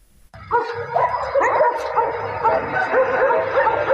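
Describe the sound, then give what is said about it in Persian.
Several stray dogs bark and yip continuously in a street in Kabul, Afghanistan, overlapping one another with some whimpering, fairly loud, starting abruptly after a brief quiet moment. “شماری از شهروندان کابل میگویند که افزایش سگ‌های ولگرد در کوچه ها و جاده ها رفت و آمد روزمره آنان را با مشکل روبرو کرده است.”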